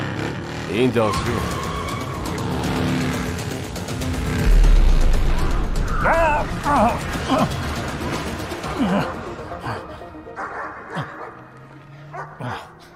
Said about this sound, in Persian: یه موتور با حجم بالای قبل.